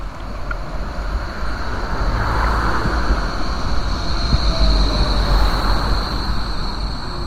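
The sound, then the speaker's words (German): A tram leaving Zürich on a sunny day rolls steadily along its rails, a continuous rumbling clatter with a thin high metallic whine running through it. No voices are heard. “Ich verlasse Zürich mit der Straßenbahn und komme etwa eine halbe Stunde später an, in der Eidgenössischen Forschungsanstalt für Wald, Schnee und Landschaft Birmensdorf.”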